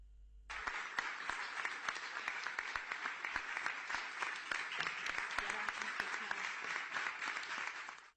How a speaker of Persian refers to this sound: کف زدن و تشویق برای جدایی و قطع رابطه. شهرداری بارسلون در حمایت از ملت فلسطین و محکوم کردن جنایات رژیم صهیونیستی علیه آنان روابط خود را با تل اویو قطع کرد.